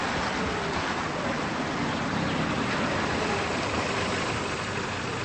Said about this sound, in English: The brown-haired woman's mother arrives in a car and stops in the driveway.